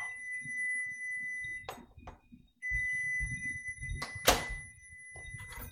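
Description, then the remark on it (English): A microwave's shrill, high-pitched electronic beep blares in two long, unbroken stretches, with a short gap between them. Low rumbling and a few sharp knocks and clatters sound underneath. “Boy, somebody's got a noisy-ass microwave.”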